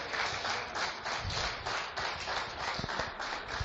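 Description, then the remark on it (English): An audience claps steadily to welcome speaker Mr. Obi Brown as he comes up to speak; a dense wash of many hands that holds at an even, lively level throughout with no voices over it. “Come on, continue to clap until he gets here.”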